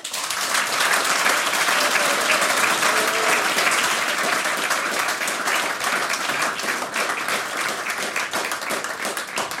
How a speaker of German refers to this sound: Das ist euer Applaus.